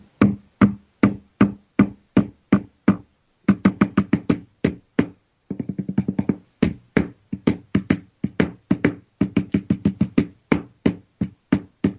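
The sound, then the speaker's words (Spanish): Knuckles rap out a flamenco soleá rhythm on a wooden table at home in a studio, sharp dull thuds in accented groups, with a brief flurry of quick soft taps in the middle. No voices. “Y la soleá, yo estoy dando golpes en la mesa de mi casa, en la mesa de mi estudio virtual, que diría Humberto.”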